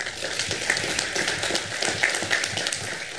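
An audience at a forum held at a high school applauds the high school staff for hosting, steadily for a few seconds, with many hands clapping at once into a dense, crackling wash of sound at an even loudness throughout.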